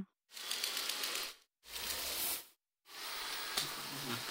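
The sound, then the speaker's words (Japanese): A robot vacuum grinds and whirs as it climbs onto a manga book left on the floor, three loud bursts of ratcheting mechanical noise separated by brief silences, with no voices. “床に漫画本置かんでよ。ロボット掃除機が乗り上げとるやん。”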